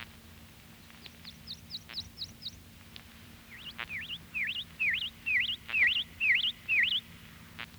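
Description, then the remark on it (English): A prothonotary warbler sings a series of bright, ringing, upslurred notes, first a faint run, then a louder string of about eight evenly spaced notes over a low steady hum. “Prothonotary warbler.”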